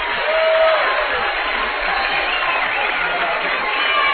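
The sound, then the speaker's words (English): A basketball crowd cheers on the Bearcats during a conference game against Southern in a loud, steady roar that holds for about four seconds, with a brief high squeak early on and no clear voices above the din. “This crowd's starting to feel it as they're getting behind these Bearcats.”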